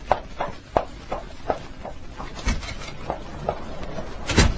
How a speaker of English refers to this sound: That's Blaine just going out the door.